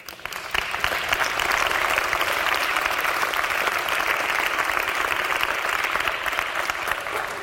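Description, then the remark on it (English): A crowd at a Christian worship service claps steadily for several seconds, a dense, sustained wash of applause that starts abruptly and holds at an even loudness throughout, with no voices standing out. “I don't know why they're clapping their hands.”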